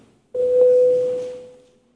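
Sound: parliamentary voting bell tone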